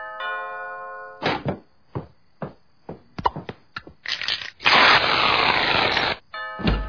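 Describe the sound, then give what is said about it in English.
A doorbell chime rings out with steady, clear tones, followed by a series of sharp thumps and a long rushing noise, then the chime sounds briefly again at the end. “Ding dong! Classic.”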